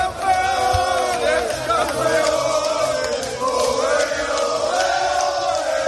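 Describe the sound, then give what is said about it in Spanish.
Granada and Las Palmas football fans roar and chant in a packed stadium, celebrating promotion to Spain's Primera; Granada won the Segunda title beating Leganés 2-0, Las Palmas drew 0-0 at home with Alavés. A dense, loud wall of many voices singing together with rising and falling tones. “Así sonaba la fiesta de ambos.”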